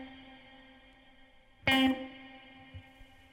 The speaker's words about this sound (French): le pre-delay, c'est le moment à partir duquel ça commence à réverbérer dans l'attaque. Vous entendez que ça grandit, hein. Le prix delay est très court, permettant une proximité justement de la reverb qui trahit une pièce un petit peu moins grande.